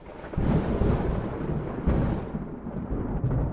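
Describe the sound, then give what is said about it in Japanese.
A deep, loud rumble of thunder follows a sky-splitting flash of lightning, rolling in and growling on, with a sharper crack bursting out midway before the rumbling settles back; no voices. “そしたら突然、空を割るような稲妻がピカッと光ったんだ。”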